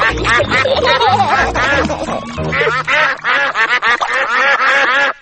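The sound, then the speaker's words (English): A flock of ducks at a little duck pond quacks loudly and continuously, nasal harsh calls overlapping in rapid bursts, with a low background hum underneath through the first half. “Look, there's a little duck pond. Mummy, can we feed the ducks?”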